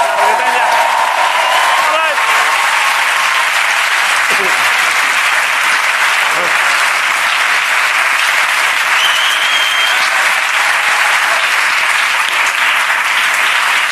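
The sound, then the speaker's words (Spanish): A programme's audience applauds steadily for the whole stretch as Ricardo Catella and Grisan are welcomed, a dense, even wash of many hands clapping at a strong, sustained level without pause. “No solo para mí, sino para dos personas que son como dos cochecillos pequeños teledirigidos que si no les das aplausos no disfrutan.”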